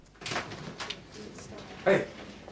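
A locker room door handle rattles and the door swings open, with a few soft scrapes leading up to one louder, sharp clunk near the end.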